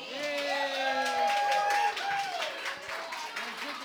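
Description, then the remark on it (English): An audience at a live local music show claps steadily in a dense, continuous wash of applause after the band thanks them, with sustained cheering voices rising above it, easing slightly after the first couple of seconds. “Everybody gets a big hand of applause.”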